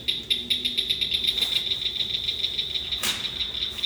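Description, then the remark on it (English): A Blanchard's cricket frog calls with a rapid, steady train of sharp, high-pitched clicks, like marbles tapped together, running the whole time, with one brief louder crackle partway through. “That's exactly what the group does when they practice with the Blanchard's cricket frog's call.”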